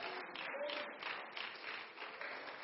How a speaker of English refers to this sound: Would you clap your hands and say yes in Jesus' name?